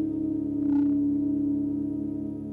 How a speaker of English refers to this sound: Live stream of an analog drone synthesizer played by the weather, made by …. You can listen to the … take the changes in weather at Wave Farm in Greene County